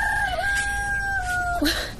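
rooster crowing

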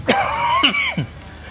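cough

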